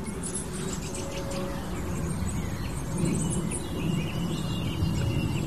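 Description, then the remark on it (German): A song thrush sings in the background, its bright, varied phrases coming faintly and repeatedly over a steady low rumble of outdoor noise. No one speaks. “Und da hört ihr im Hintergrund jetzt die Singdrossel.”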